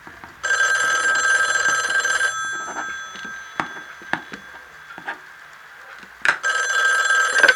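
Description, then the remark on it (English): A telephone bell rings loudly in two long bursts separated by a pause, with a few sharp wooden knocks and clicks in the gap. No one speaks. “What he couldn't have seen were the two looming phone calls that would change everything.”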